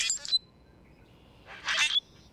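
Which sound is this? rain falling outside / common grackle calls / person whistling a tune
common grackle calls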